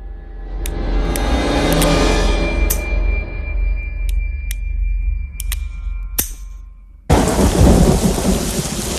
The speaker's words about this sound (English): It's morning, and Court's lying back with his head in the rain, drinking it.